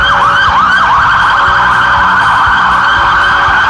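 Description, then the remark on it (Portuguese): Several police sirens wail at once from a motorcade of new police vehicles, including new pickup trucks, driving through the streets of Rio Branco, Acre. Their overlapping sweeping tones fill the scene loudly and continuously, with vehicle engine rumble underneath and no voices. “Na oportunidade, saíram em carreata com as novas viaturas pelas ruas de Rio Branco.”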